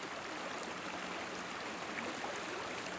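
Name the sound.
flowing stream water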